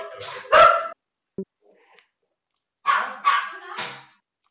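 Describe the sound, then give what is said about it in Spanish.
A police dog barks in two short clusters, a pair of sharp barks, a pause with a faint whine, then three more quick, yelping barks. No one speaks. “Ya venía de la policía canina.”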